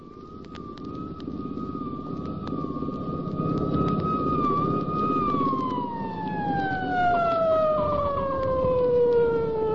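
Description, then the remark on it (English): A police siren holds one steady high tone, then slides slowly downward as it passes and draws away, over a loud rumbling bed of engine and road noise. No one speaks. “Here comes a cop car coming after me.”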